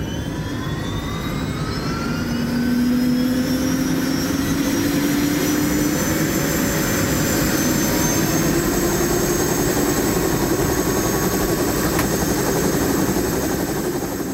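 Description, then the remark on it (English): A Blue Hawaiian Helicopters helicopter in flight on a sightseeing flight over an eruption area in Hawaii, its steady rotor thump and engine whine loud throughout, with turbine tones slowly rising in pitch and no voices. “Crew of pilots at Blue Hawaiian Helicopters don't just know how to hover around this place, they know every fabulous facet of what's below us.”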